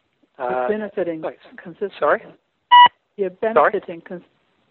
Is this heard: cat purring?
no